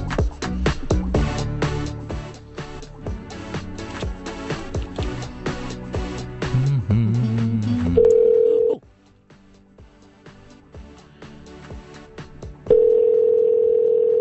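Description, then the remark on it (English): A telephone call ringing on the line, placed from a phone: a steady, loud electronic ringback tone sounds, pauses for several seconds, then rings again, following a stretch of busy, clattering background sound. “You have to let it ring several times, then it goes to whatever their greeting is.”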